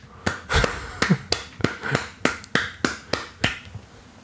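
applause

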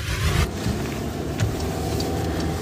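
car driving in traffic

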